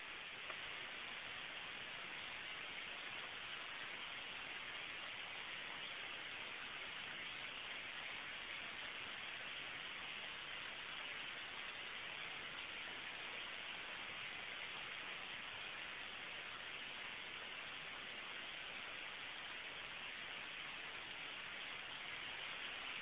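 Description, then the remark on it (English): A steady, unbroken hiss of white noise from a powered noise generator fills the whole stretch at an even level, slightly muffled in the top end, with no voices or other sounds. “Going to turn off the power on the white noise.”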